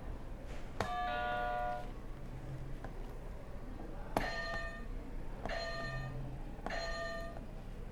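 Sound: buzzer sound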